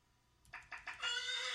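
A horse neigh played through external speakers, starting with a few quick stuttering bursts that build into a loud, sustained high-pitched whinny. No one speaks over it.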